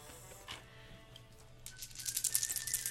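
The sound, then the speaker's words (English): A handful of dice clatter and rattle across a table during a tabletop game, a dense burst of bright, rapid clicks that starts after a quiet moment and builds in loudness toward the end. “It's a handful of dice.”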